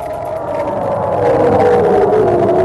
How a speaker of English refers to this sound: Sounds of sirens in Ashkelon, Israel overnight as Palestinian militants fired rockets towards Jerusalem, further escalating the most violent confrontation in months between Israel and militants in the Gaza Strip.